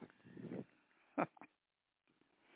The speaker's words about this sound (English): It's Frankie's new dog. That dog is stupid like you.